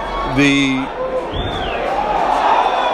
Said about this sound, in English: This being one of the oldest stadiums in the National League, you could just hear the crowd is not thrilled with what just happened. It was a strikeout.